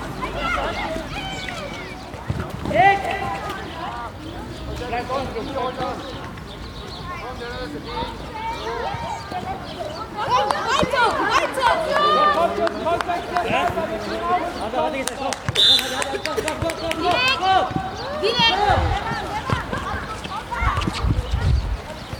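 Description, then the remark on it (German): Children's excited voices, grandchildren cheering on their grandfathers during a match at a sports ground, overlapping continuously, with occasional thumps of running feet and a bouncing ball in the background. “Also, die ganzen Enkel sind dabei und feuern die Opas an.”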